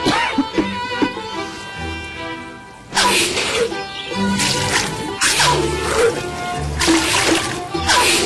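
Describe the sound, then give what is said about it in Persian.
A cloth is being soaked in water: the wet cloth slaps and splashes in several loud, repeated bursts, with sloshing between them and faint indistinct voices in the background. “زحمت میکشی این پارچه برام آب کنی؟”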